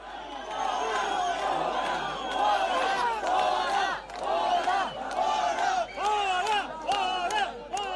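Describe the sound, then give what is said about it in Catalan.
A crowd of about a hundred people gathered in front of the CERN shouts "fora, fora" ("out, out") at two individuals heckling them. Loud, continuous overlapping voices rise into repeated rhythmic chant bursts, with sharp claps or calls punctuating the din. “El civisme i l'ordre van regnar durant tota la jornada, alterada només per un incident en què dos individus que increpaven el centenar de concentrats al davant del CERN van ser escridassats a crits de fora, fora.”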